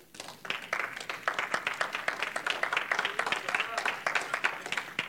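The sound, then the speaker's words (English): A large group claps hands to the Lord steadily and fairly loudly, dense overlapping claps filling the whole stretch, with a murmur of voices mixed in the background. “You can clap your hands to the Lord.”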